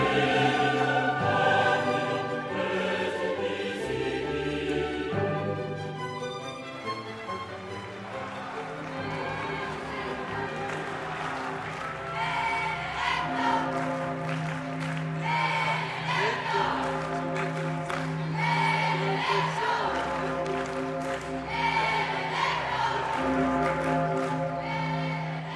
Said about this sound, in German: Die Pummerin läutet, rund 20.000 Gläubige jubeln rund um den Wiener Stephansdom.